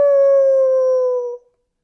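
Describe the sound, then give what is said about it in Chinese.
A single sustained wolf howl, a clear, steady tone that holds for over a second and then slides slightly down before cutting off, loud, with no other sounds around it. “小火腿，等着瞧，待会儿把你们一口全吃掉！嗷呜！”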